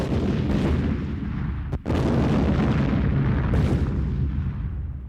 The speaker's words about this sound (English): So they had to wire that up. They also had to secure all the women and children and keep them away from the helicopter so that they weren't injured in the explosion.